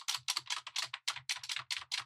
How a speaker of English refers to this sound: The sound of the keys on his plastic guitar.